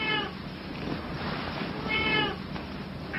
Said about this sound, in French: On n'avait pas prévu le chat, on le laisse.